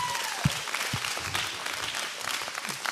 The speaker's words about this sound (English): Come on, let's just clap for it now.